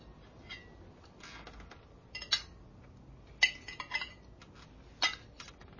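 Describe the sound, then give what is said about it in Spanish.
Cutlery clinks and scrapes against plates in scattered, irregular bursts as a man and a woman eat, with a few sharper taps standing out over a quiet background. No one speaks. “Él la mira extrañado. Comen.”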